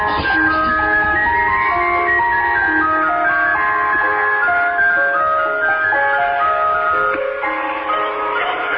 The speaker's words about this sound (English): Here are some actual ice cream van chimes, everyone. You ready? Here we go.